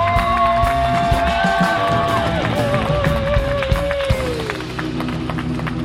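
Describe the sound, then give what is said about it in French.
A crowd applauds in a dense, steady wash of clapping, with whistles and whoops sliding over it and cheering that stays loud throughout. “Applaudissez dès demain, Sa Majesté Netanyahu.”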